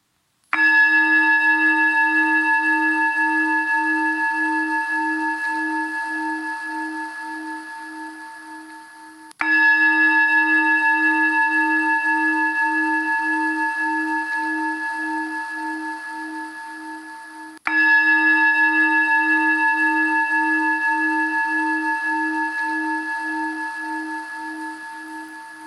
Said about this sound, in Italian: Attendete il terzo rintocco della campana per chiudere gli occhi e iniziare la pratica con me.